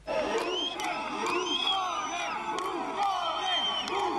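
Thousands in front of the prime minister's residence, the Grazioli palace, on a Saturday evening shout "buffoon" and "clown" at Silvio Berlusconi as he formally submits his resignation, the massed voices rising and falling in loud, rhythmic chants with sharp whistles cutting through now and then.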